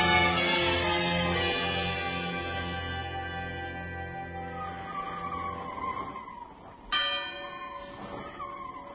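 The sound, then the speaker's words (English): Two clocks independently strike one o'clock, each with a single strike: one deep, rich chime rings out and slowly fades, then a second, separate bell chimes near the end with its own lingering hum. “That was 2 clocks striking one independently”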